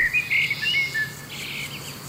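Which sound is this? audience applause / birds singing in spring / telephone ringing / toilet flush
birds singing in spring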